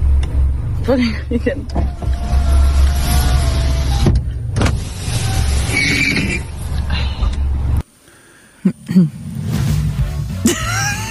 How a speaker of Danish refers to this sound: For vinduet i bilen. Ja. Og jeg har taget den med, lyden.